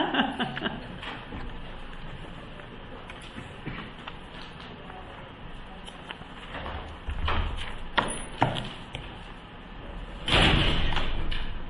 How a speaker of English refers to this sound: Oh, and he slammed the door. I don't think he likes me very much.